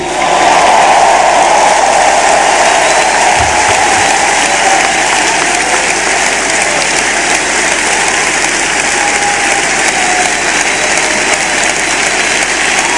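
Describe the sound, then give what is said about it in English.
A standing audience claps loudly and continuously in praise to the Lord, a dense, roaring wash of applause that holds steady for the whole stretch with no talking over it. “Lord, the biggest clap of”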